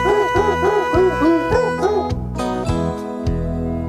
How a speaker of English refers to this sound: And that goes for the dogs barking. The Jingle Bell thing.